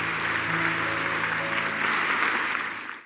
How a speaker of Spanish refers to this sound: Amén y amén. Dele un aplauso fuerte a Jesús.